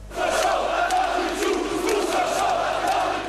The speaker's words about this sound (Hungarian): Tadic Ustasa, Tadic az áruló, ordították a nacionalisták Belgrád főterén. A teljes belváros lelették a Karadzsics mellett tüntetők, néhányan a villanypóznákra is felmásztak, végig a kormány lemondását követelték.